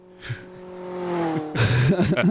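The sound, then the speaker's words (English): A person makes a loud car engine sound effect: a steady rising revving drone, then throaty, wavering voiced vroom sounds imitating the engine. “All the assholes with loud cars were out and about.”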